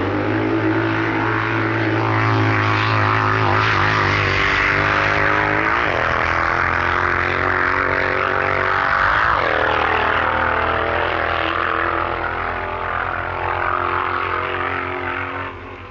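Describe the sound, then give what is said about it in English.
A loud V-twin Harley-Davidson motorcycle with solid rear suspension, ridden by Bill Woods at a drag racing festival, roars steadily, its pitch climbing and then dropping sharply twice as the rider shifts gears, before fading slightly at the end. “Harley-Davidson of Bill Woods was of a more traditional layout, and the big V-twin machine with solid rear suspension makes an impressive sound, with the rider's gear changes making interesting comparison with the English rider's technique.”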